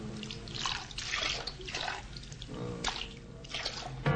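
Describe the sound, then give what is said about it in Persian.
Water splashes and pours into a basin of water in repeated bursts as a man uses his foot to splash water over another person's feet resting in the basin, with dripping and sloshing between, moderately loud, with no voices. “پدرش پاهای اونو گذاشته تو لگن آب، با پاش آب میریزه رو پاهاش.”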